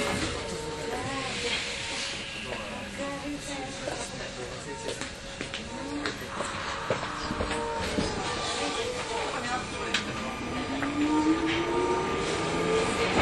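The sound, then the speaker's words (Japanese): A Tokyo Metro Marunouchi Line subway train bound for Shinjuku rumbles and hisses steadily as it runs toward Kasumigaseki station, its motor whine rising in pitch toward the end, with a recorded Japanese and English announcement voice speaking over the noise. “東京メトロ丸ノ内線をご利用いただきましてありがとうございます。この電車は新宿行きです。”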